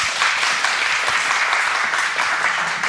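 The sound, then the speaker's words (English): A crowd in a speakers tent applauds steadily to welcome the last presentation of the day, a dense wash of many hands clapping at even loudness for a few seconds with no voices over it. “Let's give a round of applause for Peter.”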